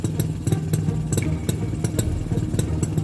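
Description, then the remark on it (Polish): A motorcycle engine idles, a steady low rumble with rhythmic clattering ticks running through it for the whole stretch, with no voices. “Niemal nigdy nie rozstawał się z motocyklem.”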